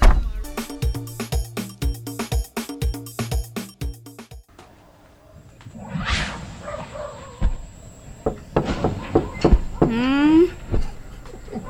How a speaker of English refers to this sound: Why are you knocking? Why you don't just open the door?